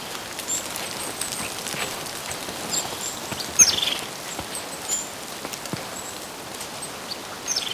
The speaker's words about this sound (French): Ces oiseaux sont les sentinelles du vivant, héros de la forêt.